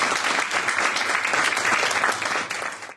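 A crowd applauds steadily, a dense wash of many hands clapping at an even loudness for a few seconds before it cuts off abruptly at the end.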